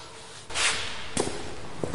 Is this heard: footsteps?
yes